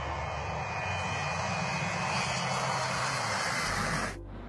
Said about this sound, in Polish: jednak zaczniemy od wielu, jak się później okazało, powiązanych nagrań Boeinga 727 kolumbijskiej linii Aerosecre, której zwieńczenie miało miejsce 20 grudnia 2016 roku, podczas właśnie katastrofy lotu Aerosecre 157.